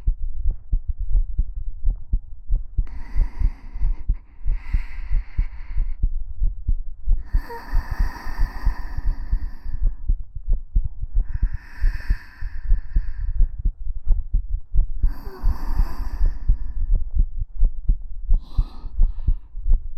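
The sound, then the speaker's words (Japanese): A fast, heavy heartbeat pounds steadily throughout, with soft breathy exhalations rising over it every few seconds. “心臓の音、うるさくない？平気？”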